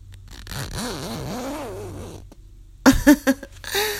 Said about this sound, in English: But we definitely have to do something about these pants. Let's see. If I could just... put my teeth on the zipper.